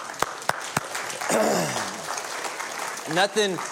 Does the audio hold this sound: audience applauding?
yes